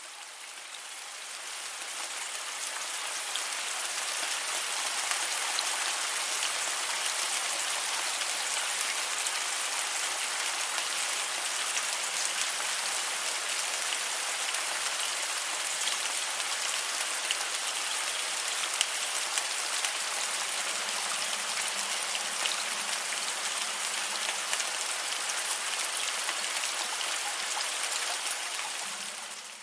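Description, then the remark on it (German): Steady rain pours down continuously for the whole stretch, a dense, even hiss of drops hitting a surface, with no voices and no thunder or other interruptions. “Beim Regen ist es jedoch sehr, sehr wichtig, dass du bei den Aufnahmen darauf achtest, dass wirklich ausschließlich Regengeräusche darin vorkommen und keine Donner.”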